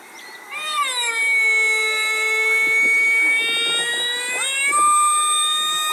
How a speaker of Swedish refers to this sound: Ja, det där ljudet hade drivit beduinerna till vansinne. Då hade de inte valt att ha kameler. Nej, jag tror inte att det där var en kamel. Fel! Det var en kamel!